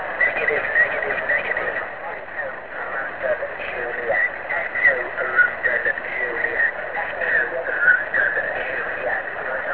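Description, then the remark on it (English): Dense, crackling atmospheric static hisses continuously over a narrow amateur radio channel during a contact, loud and steady for the whole stretch. Faint warbling tones and muffled fragments of the signal are buried beneath it, and the signal is reported as 5 and 3. “I believe it's 5 and 3 with a ton of QRN.”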